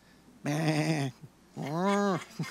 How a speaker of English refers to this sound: What then is this bleating of sheep that I hear and this lowing of oxen?